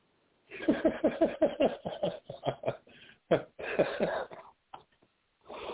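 coughing fit

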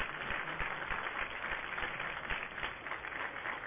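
crowd applause sound effect

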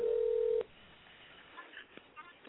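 telephone dialing tones

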